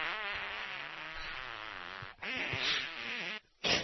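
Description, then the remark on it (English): A long, buzzy fart with a wavering pitch, followed by a couple of shorter sputtering bursts after a brief break. It's fairly loud, with no talking. “But when I do, I fart. It sounds like cowbell.”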